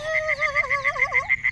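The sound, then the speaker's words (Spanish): A cartoonish baby frog sound effect: a bright, wobbling, warbling chirp over a steady rapid pulse, fairly loud, with no talking. “Una tarde como estas, una rana bebé estaba saltando por el campo.”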